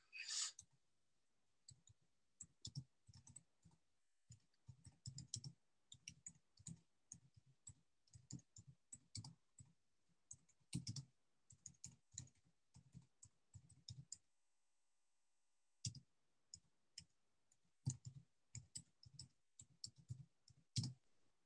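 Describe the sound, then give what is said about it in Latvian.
Rapid typing on a computer keyboard, with bursts of quick key clicks separated by short pauses, including one silent gap of a few seconds before the typing resumes. “Jā, skaidrs, davai, es ļoti ātri rakstu, jā.”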